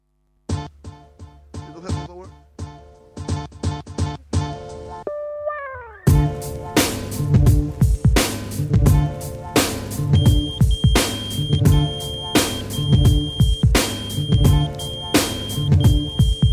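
A homemade alarm clock, made about two years ago and used every morning, beeps in a quick, bright electronic pattern, then a loud, busy beat with heavy drums kicks in while a steady high-pitched tone rings over it.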